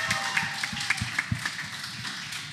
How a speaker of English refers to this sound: But give yourselves a massive round of applause. Thank you, guys.